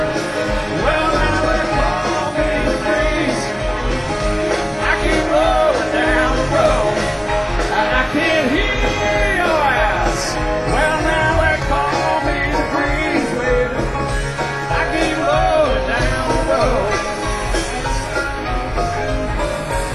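A large rock concert crowd cheers and yells loudly and continuously, a dense wash of many voices with sung, wavering calls rising above it, filling the whole stretch without pause.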